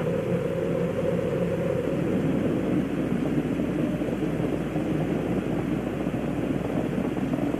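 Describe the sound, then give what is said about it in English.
A steady, loud, low rumbling roar of the Space Shuttle Challenger's three main engines after liftoff on the 25th Space Shuttle mission, throttling down to 94%, broad and crackling with deep bass, continuous without pauses and no voices over it. “Engines beginning throttling down now at 94%. Normal throttles for most of the flight, 104%.”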